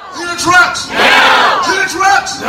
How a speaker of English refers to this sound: Here they are protesting outside Postal Service headquarters in D.C. in April.